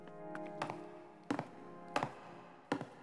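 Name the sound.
footsteps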